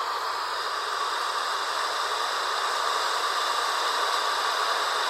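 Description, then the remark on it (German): A loud, steady rushing roar like a rising storm wind, broad and hissing, holding at an even level for several seconds with no voices. “Da war plötzlich ein mächtiges Rauschen zu hören, fast so, wie wenn ein Sturm aufkommt.”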